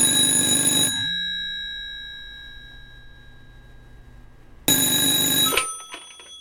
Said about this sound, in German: Wir waren beim Tod, wollten ihn interviewen zu einem Thema, ja, bis auf einmal das Telefon klingelte.